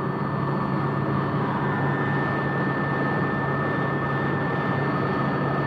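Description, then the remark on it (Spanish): A helicopter flying toward a city with its door open drones steadily and loudly throughout, its rotor blades and engine making a dense continuous roar with a faint high whine, the blade noise from outside intensifying, with no voices. “El ruido se intensifica, procedente del que producen desde el exterior las aspas del aparato.”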